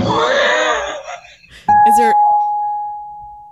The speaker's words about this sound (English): What is it? Is that a bell in your? That's my guitar. Oh, Fangul. That was a gorgeous note. Sounded like it came through a speaker system. It did. Oh, it came through my speaker.